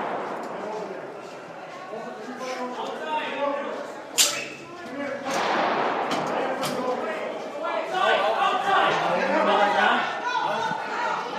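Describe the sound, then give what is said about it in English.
Several sharp, loud gunshot-like cracks ring out in the middle section, spaced irregularly, over continuous agitated crowd chatter and voices in the background. “There's a bunch of gunshots.”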